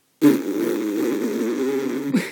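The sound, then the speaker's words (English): A voice blows a loud, sustained raspberry with the mouth, a buzzing, sputtering imitation of a fart lasting about two seconds, with no other sounds around it. “Honestly, I know I just made farting noises, but the what your mouth does when you do that, he says he does that on the clit and that it feels amazing.”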